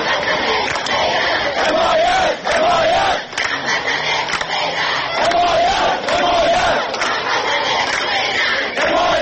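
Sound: protest crowd chanting slogans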